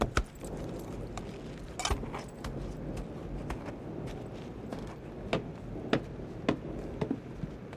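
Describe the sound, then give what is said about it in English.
Horse hooves clip-clop at an unhurried walking pace, a steady run of sharp knocks over a constant background wash of noise, as a rider in a town in the rain reins in his horse at the Longhorn saloon. No one speaks. “As Tack reined in his horse, he noticed a young boy scraping a poster off the saloon marquee.”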